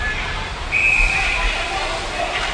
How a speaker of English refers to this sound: And we've got a whistle. And I believe a penalty has been assessed here, or matching penalties.